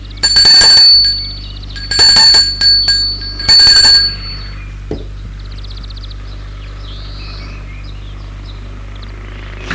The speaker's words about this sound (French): L'homme va sonner à la porte.